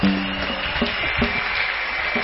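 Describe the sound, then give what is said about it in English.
A church audience claps their hands for Jesus steadily throughout, a dense, continuous wash of many hands with no break, joined briefly at the start by a low sustained tone. “Church, clap your hands for Jesus.”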